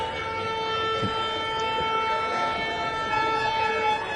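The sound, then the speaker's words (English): Trucks rumble past, a loud, continuous roar of engines with a steady mechanical whine running through it, no voices over the noise. “No, that's the trucks.”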